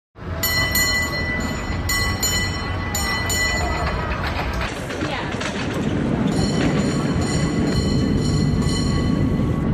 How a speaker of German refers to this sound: Ja, das Klingeln und die Musik der Räder sozusagen, die Cable Cars, die da auf teilweise sehr steilen Straßen unterwegs sind.